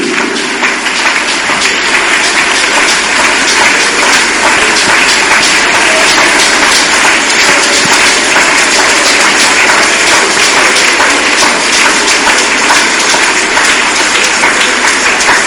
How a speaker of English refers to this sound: Those of you who are clapping, your tomorrow will be glorious.